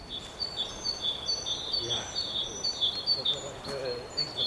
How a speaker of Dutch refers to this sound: Wat een rust, hè, vogeltjes. Ik neem aan dat dat te horen is. Ik weet ze niet met name te noemen.